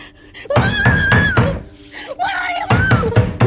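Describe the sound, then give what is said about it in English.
A woman bangs and rattles at a locked door she is trying to open in two quick bursts of heavy thumps, while her voice cries out "Mom!" urgently over the pounding. “She rushes to the door, but finds it locked.”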